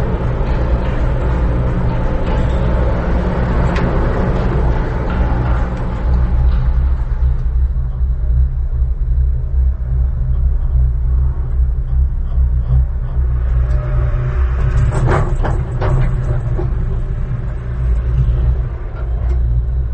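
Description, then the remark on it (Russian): A heavy, steady mechanical rumble drones throughout, with crackling noise and a burst of sharp rattling clacks around the three-quarter mark as a cable car cabin rolls over the rollers at a Swiss Alpine resort, recorded with very powerful microphones. No voices. “дороги на швейцарских альпийских курортах, с очень сильными микрофонами записаны вот эти вот странные звуки, треск, шум, вот этот перепад, когда вагончик проходит через вот эти катушки, да, получилась новейшая какая-то вот такая шумовая музыка.”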